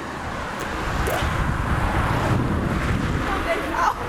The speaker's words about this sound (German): Genau, das war ein Auto.